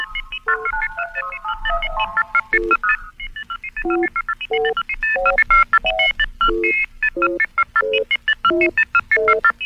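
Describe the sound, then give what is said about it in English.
The NBC radio network's Monitor Beacon electronic tone signature: a quick melodic run of synthesized beeps, then a steady, rhythmic sequence of loud pulsing tones, heard alone for about ten seconds. “You're on the Monitor Beacon.”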